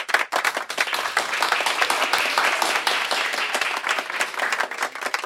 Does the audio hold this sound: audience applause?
yes